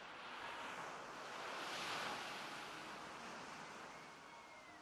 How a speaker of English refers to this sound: There are noises, the sigh and drag of gentle waves, the call of seagulls.